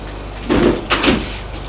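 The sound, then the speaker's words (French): Elevator doors slide open on arrival at the fourth floor with a short mechanical rumble followed by a second brief clunking surge, moderately loud, with no voices. “Ils arrivent au quatrième étage, sortent de l'ascenseur.”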